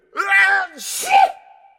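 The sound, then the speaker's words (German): One loud sneeze: a voiced, drawn-in "ah" builds briefly, then bursts into a sharp, hissy "choo" that fades with a faint tail. No talking around it. “Gesundheit.”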